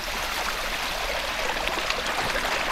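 nature, water flowing

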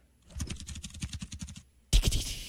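machine, computer keyboard typing

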